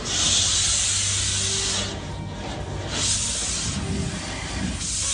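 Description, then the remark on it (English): An automated car wash: a steady, loud hiss of spraying water over a low mechanical drone, swelling and easing in waves as the jets sweep past, with no voices. “The sound of a car wash, an automated car wash.”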